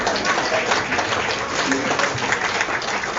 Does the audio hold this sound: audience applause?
yes